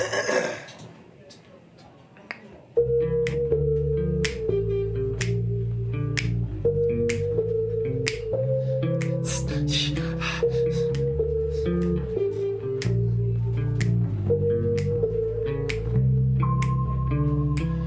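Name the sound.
rhythmic hand clapping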